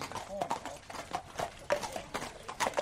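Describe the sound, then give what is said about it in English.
Horse hooves clip-clop in a steady, uneven rhythm of sharp knocks as several horses come in from the fields at Arthur Moore's stables on a snowy February morning, with a faint voice murmuring underneath. “Horses are coming in from the fields.”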